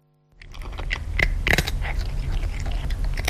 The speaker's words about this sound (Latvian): Šādi sauso barību kraukšķina mans kaķis vārdā Muriks.